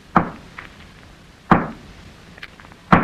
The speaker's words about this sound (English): Hey, what are you doing with that hammer? Oh, that's what I'll rap on the wall with. Listen to this.